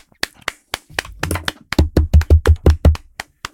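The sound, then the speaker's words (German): Scattered hand claps at first, then a quick run of about nine heavy knocks on a table as applause, thudding with a deep, booming body before a couple of final light taps. “Habe ich jetzt alleine applaudiert oder was? Ich habe euch Tisch geklopft.”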